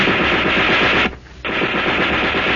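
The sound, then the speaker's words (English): A German soldier's burp gun, a submachine gun, fires two quick, loud bursts of rapid shots at a man, split by a brief pause of near silence. The rattling reports come fast and even, with no voices. “He took two quick bursts at me.”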